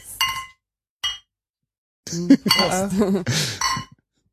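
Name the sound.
beer glasses clinking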